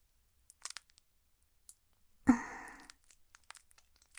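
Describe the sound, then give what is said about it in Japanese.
Wet, sticky kneading sounds of hands coated with plenty of saliva: scattered soft squelchy clicks, then one loud slushy squish that fades over a moment, followed by more small wet pops. No one speaks. “約束通りたっ ぷり唾液を塗ってみましたが、やりすぎたかもしれません。”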